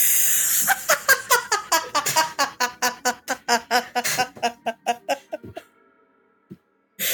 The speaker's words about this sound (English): It's just the sound of like scratching pen and paper.